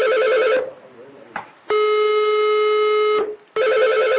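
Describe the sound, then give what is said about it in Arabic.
A telephone rings repeatedly with loud electronic tones: a warbling burst, a longer steady ring, then another burst starting, with brief gaps between. It is a call to Sheikh Khaled al-Wasabi's telephone, which goes unanswered. “كيف ان يدق على التليفون؟ هو الان يتصل بالشيخ خالد الوصابي وهذا تليفون الشيخ خالد الوصابي.”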